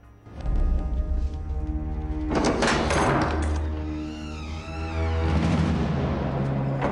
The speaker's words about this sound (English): She scans the long unlit corridor, then pulls back the bolt on a wooden door.